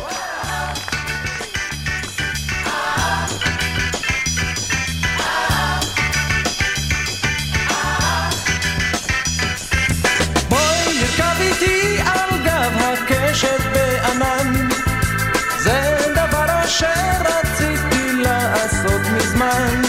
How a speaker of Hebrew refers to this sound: אז תחשבו על זה, אני אשים ככה איזשהו שיר, שיר ככה קליל.